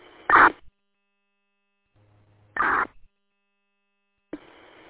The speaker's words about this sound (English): Heard a key up on the audio.